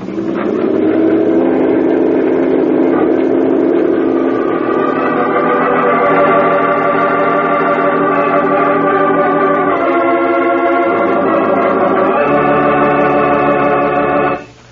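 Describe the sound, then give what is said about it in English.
A police motorboat engine roars steadily at full speed on a river, a loud, continuous drone whose pitch shifts a couple of times near the end before it cuts off abruptly. “Okay, full speed.”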